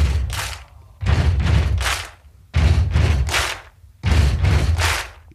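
Four people stomp heavily and clap sharply in a recording studio, repeating a steady stomp-stomp-clap rhythm, four loud cycles with booming low thuds under crisp claps, with no one speaking.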